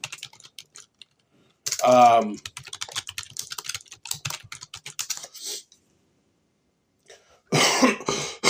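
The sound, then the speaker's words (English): Rapid, irregular clicking of fingers typing on a computer keyboard, with bursts of keystrokes and short pauses, broken up by a throaty cough early on and a couple of harsh coughs at the end. “And I'm going to do a little typing here, so you might hear that.”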